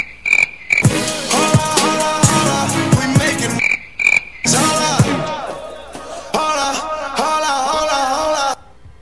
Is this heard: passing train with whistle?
no